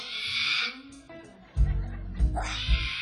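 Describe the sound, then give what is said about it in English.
A voice imitates a singer's strained, cat-like singing wail with a rooster-ish crowing edge, a raspy cry that rises and breaks, preceded by a breathy hiss, fairly loud. “like a cat meets a fucking, I don't know, what was that, a rooster or something?”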